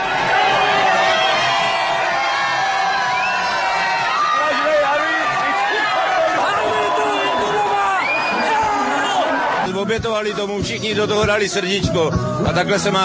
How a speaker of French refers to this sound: Avant de reprendre toute leur ampleur, place de la Vieille Ville, c'est devant une place noire de monde que l'équipe victorieuse s'est présentée, applaudie et célébrée comme il se doit par des milliers de supporters enthousiastes.